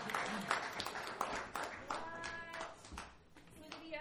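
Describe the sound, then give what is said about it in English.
An audience at a storytelling event claps after a story in a steady, uneven patter of sharp hand claps lasting several seconds, with murmuring voices and a brief sung or drawn-out vocal tone mixed in. “I don't know if you want to clap for that.”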